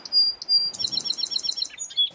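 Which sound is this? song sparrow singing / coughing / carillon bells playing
song sparrow singing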